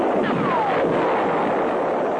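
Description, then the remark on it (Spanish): A loud, rumbling explosion, an oxygen tank blowing up in a shark's mouth and blowing its head off, as at the end of the first Jaws film, roars steadily for about two seconds, dense and noisy, with faint descending whistling tones sliding through it. No one speaks. “O que le metan a un tiburón una bombona de oxígeno en la boca y le vuelen la cabeza, que es lo que pasa, si te acuerdas, al final de la primera película de Tiburón.”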